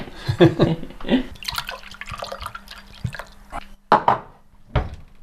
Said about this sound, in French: Un verre d'eau ? Ouais, volontiers. C'est l'eau du robinet, hein. Et l'eau au local est bonne, hein.